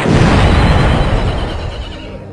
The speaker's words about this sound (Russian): От взрыва бомбы, брошенной революционером, погиб ее муж.